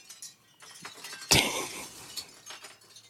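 Wind chime tinkling: one sudden bright, glassy strike rings out and slowly fades, surrounded by a few softer, scattered clinks. No one speaks.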